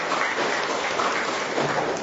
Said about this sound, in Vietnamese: Rồi chúng ta cho một tràng tay chào mọi người bạn này, coi chia sẻ.